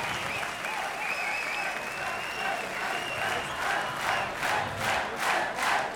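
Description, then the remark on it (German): A concert audience at the ERV Tour 95 cheers and shouts for an encore over steady applause, with rhythmic clapping swelling in regular pulses toward the end and a few sustained high-pitched whistles or yells. “Es gibt noch, schreien jetzt schon noch Zugabe.”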